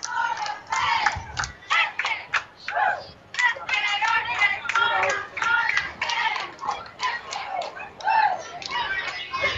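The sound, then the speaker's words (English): Sparta Lincoln junior high cheerleaders chant a cheer at a parade on a hot day, in loud, rhythmic unison, their high voices rising and falling in steady bursts, with a few sharp claps mixed in. “Yeah, we even got Sparta Lincoln with junior high cheerleaders coming.”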